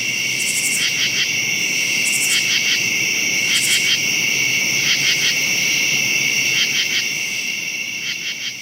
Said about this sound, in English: So as the temperature drops in the night, they move slower. They are less able to sing. So temperature has a big effect on their ability to sing. But the katydids have stopped. But the crickets will continue all night long.